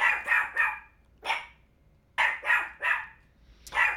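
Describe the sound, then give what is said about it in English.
A small dog named Skeeter barks repeatedly in sharp, high-pitched, squeaky yaps, coming in quick clusters of two or three with short pauses between, fairly loud against an otherwise quiet background. “You hear that little squeaky voice right there? Well, now little Skeeter is vicious.”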